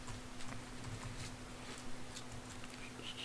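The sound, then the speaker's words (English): Faint, scattered clicks of people typing on computer keyboards as they look up a Bible passage, irregular, over a steady low electrical hum with no talking. “And you hear no pages turning because everyone's on the computer.”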